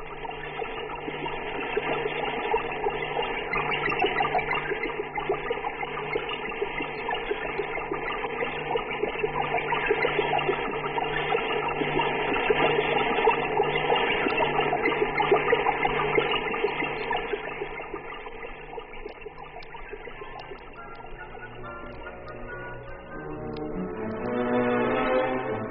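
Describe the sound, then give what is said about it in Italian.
A telemetry signal from the Ariel I satellite, built by the British to study the ionosphere and launched by the Americans on 26 April 1962: a dense, continuous electronic warble with a cascading, rushing texture, steady and loud throughout, its tones shifting and stepping in pitch near the end. No voices. “Ascoltate questo curioso effetto di cascata con il quale Ariel I informa la Terra su determinati aspetti della ionosfera.”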